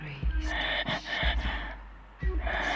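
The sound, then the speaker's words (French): A restrained exhalation, air pushed out in several short, breathy bursts while the breath is held back at the same time, each puff partly held back, with muffled low thumps of breath and no speech. “Je retiens, je souffle et je retiens en même temps.”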